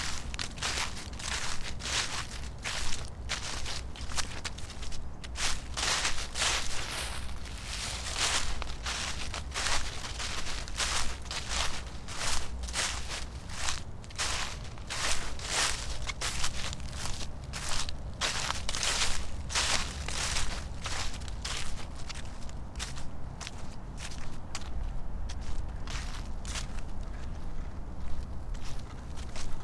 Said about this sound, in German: Beobachte, wie der Wind das Laub aufwirbelt. Komm, wir gehen über das Gras, rechts entlang, zur Anhöhe.